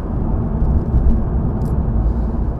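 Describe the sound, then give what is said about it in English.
A car engine rumbles loudly and steadily, a deep, dense low roar with slight surges as the car, traction control off, takes a hard downhill corner onto a freeway and shifts down to third gear for traffic; continuous with no voices. “Here we go, a downhill outside bank, hard corner onto the freeway. Down gray gearing for the traffic to third gear.”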